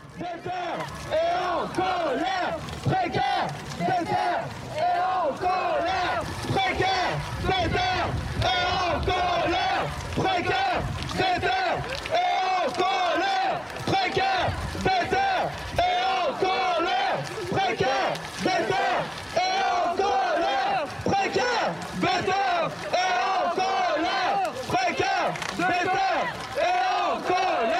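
A large crowd at a political demonstration chants and shouts continuously, many voices overlapping in loud, rhythmic cries that rise and fall without pause, with occasional sharp claps or bangs cutting through the din.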